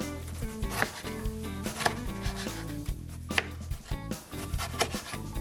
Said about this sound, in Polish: W międzyczasie, kiedy cebulka jest na patelni, my zajmiemy się krojeniem pozostałych części, czyli ogórka i pomidora.